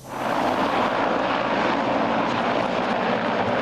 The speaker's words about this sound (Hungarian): Ez a román helikopter a sérülteket szállította.